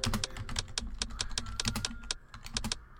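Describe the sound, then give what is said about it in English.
Rapid, uneven typing on a computer keyboard while typing a message in a Skype chat, a steady clatter of sharp key clicks in quick bursts for a few seconds, with no voices. “chat, type a message here.”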